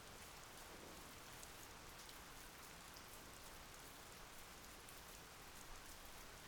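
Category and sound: nature, steady rain falling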